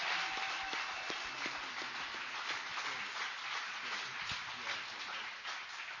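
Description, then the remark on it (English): A church audience applauds the choir steadily for several seconds, a dense wash of many hands clapping at once with a murmur of voices mixed in, at an even level. “The choir was amazing. Give them a round of applause.”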